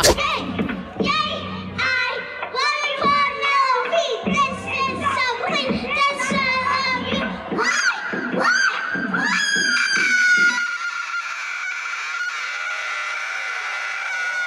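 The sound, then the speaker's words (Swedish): A young girl lets out a run of harsh, strained death-metal-style screams in loud bursts, ending in one long sustained raspy shriek. “sen så ställer hon sig och gör skrik. Alltså typ death metal skrik.”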